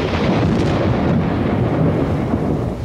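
heavy rain with thunder

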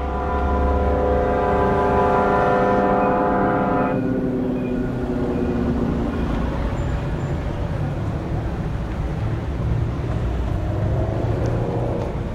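street traffic

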